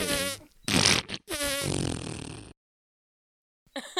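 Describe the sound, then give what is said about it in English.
Loud, buzzy farting sounds from a woman lying naked on her bed, several sputtering bursts over about two seconds, then a pause of silence before a brief final burst. “Naked on her bed, farting.”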